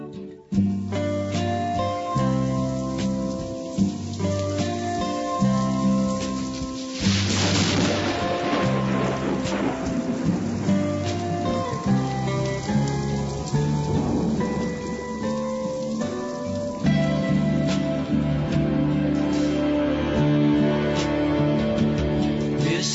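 Steady rain pours down with a low thunder rumble growing louder midway, while gentle instrumental music plays underneath throughout; no one speaks.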